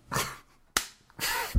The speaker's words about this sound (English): did you just spank your spanking simulator? When I'm on the subway platform and I'm waiting for my fake girlfriend to arrive, I like to have a robot ass to slap.